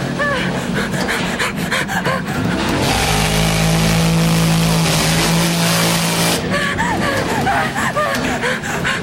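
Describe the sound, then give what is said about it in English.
A chainsaw engine roars into a loud, sustained rev for a few seconds, a steady buzzing drone, as it is held over a stairwell railing, with frantic vocal cries and gasps before and after it. “Patrick holds the chainsaw over the railing, aimed at Christy like a gun.”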